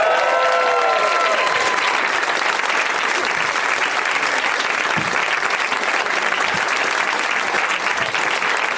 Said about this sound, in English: You have to clap until they come out.